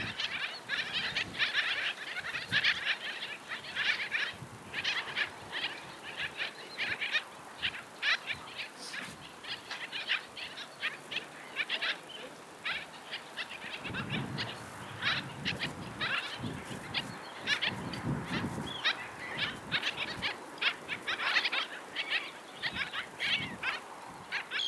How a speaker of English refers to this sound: Bird Song Break featuring the black skimmer this week